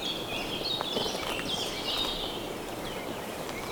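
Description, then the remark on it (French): A continuous chorus of high birdsong, many birds chirping and trilling at once in a fir forest, steady and fairly loud, with a faint low rustling underneath and no talking. “La sapinière protège les oiseaux qui s'égosillent.”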